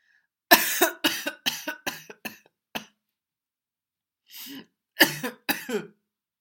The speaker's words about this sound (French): Une quinte de toux interrompit sa phrase.